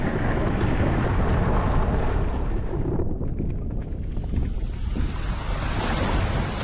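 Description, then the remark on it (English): A volcano erupts with a loud, continuous roar of churning lava, a dense rumbling wash that shifts slightly in tone partway through and never lets up. No voices are heard. “Lava starts to erupt from a volcano.”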